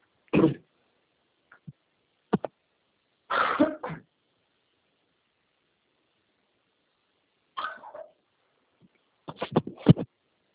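A dog gives several short, sharp barks and yelps in scattered bursts with quiet gaps between, some bunched into quick runs near the end; no one speaks.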